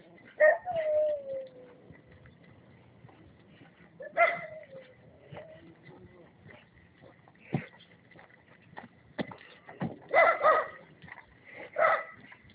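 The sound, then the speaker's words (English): A dog barks and growls in short, scattered bursts with whiny, yelping tones between them, over a quiet background. No one is speaking. “So interesting, barking and growling and how dare you or whatever.”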